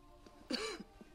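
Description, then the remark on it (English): A single short, throaty cough from a woman at a table, almost like a rough throat clear, with quiet room tone before and after. “Coughing, Sylvia excuses herself from the table.”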